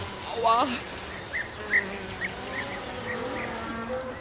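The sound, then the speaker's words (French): Flies buzz steadily in the countryside, a continuous droning hum that shifts in pitch as they circle, with a few faint chirping sounds scattered in the background. “il est normal que les mouches le gênent et qu'il soit agacé.”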